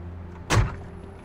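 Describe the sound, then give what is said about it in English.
A single car door thuds shut as someone gets out of the car, a short, solid, fairly loud clunk over a low steady hum. No voices are heard. “Regina gets out of the car.”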